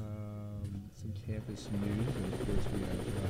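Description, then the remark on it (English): A helicopter rotor sound effect, loud. A steady droning hum gives way to a dense, churning low rumble that continues without a break to the end. “We have him live from the WJRH chopper.”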